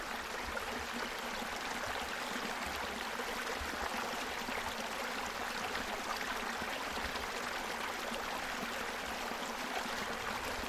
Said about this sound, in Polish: Lubi pan dźwięk płynącej wody? Myślę, że większość dźwięków przyrody no to jest coś, co mamy w sobie w jakichś takich atawistycznych odruchach, w takiej atawistycznej pamięci, że ta przyroda jest nam bliska i nas uspokaja.